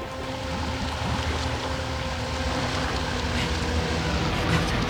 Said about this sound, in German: Peter, du, hinter uns. Ein Motorboot.